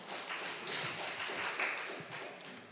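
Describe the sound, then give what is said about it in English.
An audience applauds, a dense, steady wash of many hands clapping together at a moderate level for about three seconds, with no voices standing out. “Give yourselves a round of applause for being here on this morning.”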